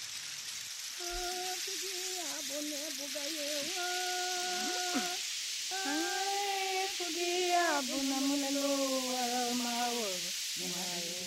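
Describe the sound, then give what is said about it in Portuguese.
A rainstick pours out a steady, rain-like rattling hiss that runs unbroken for about eleven seconds, while sustained, gliding tonal notes, like humming or singing, float above it. “Os organólogos, que são os especialistas em instrumentos musicais, dizem que o pau de chuva surgiu em vários lugares do mundo em épocas diferentes.”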